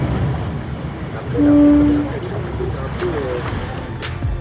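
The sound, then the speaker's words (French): A boat out on the water: a steady low engine rumble mixed with the wash of waves, a brief humming tone swelling near the middle, and a few light knocks toward the end. “Merci beaucoup pour votre accueil à bord de ce bateau, parce que c'était vraiment une journée merveilleuse.”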